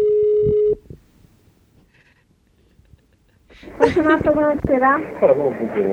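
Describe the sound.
A single short burst of a steady electronic phone ringing tone, followed by a pause of near silence before a voice starts talking loudly.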